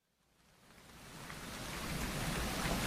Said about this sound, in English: I think the rain's easing off a bit. Yeah, there's a bit of blue sky over Lakey Hill.